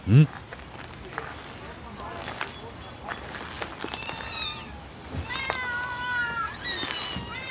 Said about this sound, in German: Warum sind denn da so viele Katzen drin?